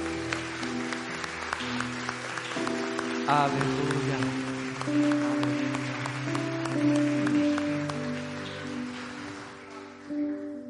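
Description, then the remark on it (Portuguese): An audience applauds steadily, a dense patter of many hands clapping over sustained keyboard chords, with one voice calling out briefly partway through. “Eu quero que você aplauda esse ilimitado.”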